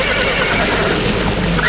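Two white horses harnessed to a chariot neighing loudly, a continuous, dense stretch of whinnying with no pauses and no one talking.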